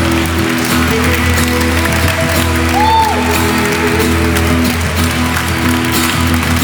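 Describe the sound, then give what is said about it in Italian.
Loud, sustained crowd applause of praise to the Holy Spirit fills the whole stretch as a dense, steady roar of clapping, with low held musical tones underneath and a brief rising-and-falling whistle midway. “Un applauso di lode forte e potente.”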